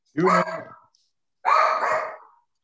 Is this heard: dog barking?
yes